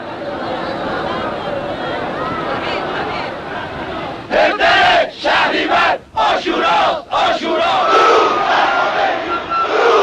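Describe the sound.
A large crowd in Iran roars in a dense wall of voices as it surges toward Khomeini, then breaks into loud rhythmic chanting of greetings to him, bursts of unison shouting separated by brief gaps, swelling back into sustained clamor.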